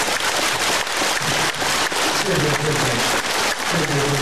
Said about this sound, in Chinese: 请大家再于这里掌声和感谢。